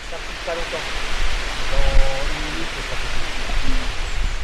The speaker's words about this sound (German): Doch das Rauschen wird vom Bretagne-Wind verursacht, der durch eine Galerie von Silberpappeln jagt.